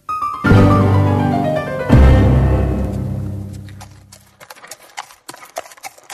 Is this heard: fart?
no